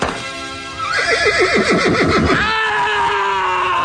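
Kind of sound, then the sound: animal, horse neighing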